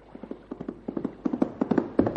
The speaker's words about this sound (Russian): Ах, что такое? Чу, я слышу топот его коня.